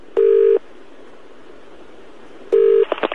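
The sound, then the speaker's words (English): Two steady electronic telephone tones sound about two seconds apart, clear, followed by a quick run of short beeps like keypad presses as someone phones a Chinese takeaway. No one speaks. “Let's phone second Chinese takeaway now.”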